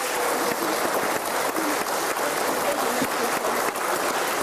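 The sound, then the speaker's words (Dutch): Sustained audience applause for the lead candidates at the live broadcast of the 2014 lijsttrekkersdebat, a dense, steady wash of many hands clapping at an even loudness for several seconds, with no voices standing out above it. “Dus dames en heren, mag ik een heel groot applaus voor alle lijsttrekkers.”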